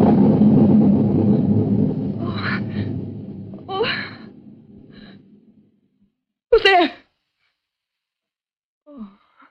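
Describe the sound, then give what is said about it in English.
Thunder rumbles low and heavy, rolling on for several seconds before fading away; a sharp gasp follows, then a soft breath in the quiet. “Only thunder.”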